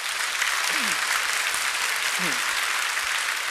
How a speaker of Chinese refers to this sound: 他3月1号的时候回诊，电脑断层报告一切正常，我们拍手给上帝。